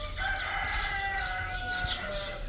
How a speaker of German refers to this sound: Jetzt laufen dort auch ein paar Hühner herum.